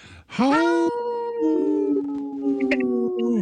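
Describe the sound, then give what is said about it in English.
A person imitates a wolf howl with one long, loud, sustained vocal tone that rises sharply, holds a wavering pitch with a brief break, then tapers off, and also laughs. “You howled and laughed. And I don't remember wolves laughing, but that was a good one.”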